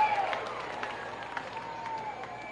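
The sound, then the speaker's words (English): A home baseball crowd cheers and claps in a steady wash of noise in the seventh inning as batter Monastero takes a pitch from Lisandro Santos, with scattered sharp claps and shouts poking through a continuous roar that holds for the whole moment. “And Monastero taking, finds his own, and a big cheer from the home faithful.”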